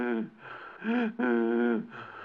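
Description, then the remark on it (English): Loud, strained gasps for breath, presented as porous house wood whose pores were sealed to hold paint: two long wheezing pulls of air with a harsh, voiced edge, separated by brief pauses and trailing off into softer breathing, alone. “Well, when they close the pores, the wood can't breathe, you see, and so it keeps gasping for breath.”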